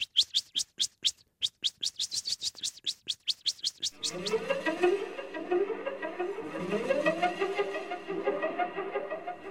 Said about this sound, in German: Nun kommt die Katze näher. Man braucht es gar nicht zu sehen, man hört es, dass die Katze kommt. Kommt die Katze noch näher, fängt sie an zu tixen. Das kann ich gar nicht so scharf und so schrill, wie die Amsel das kann.